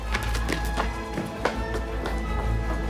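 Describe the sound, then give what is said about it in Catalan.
Quick, hurried footsteps of a person running frantically through city streets, dodging pedestrians on the way to the Jewish quarter, a steady rhythm of sharp taps on a hard street surface over a low background rumble, with no voices. “Corre esperitat pels carrers esquivant els vianants fins al call.”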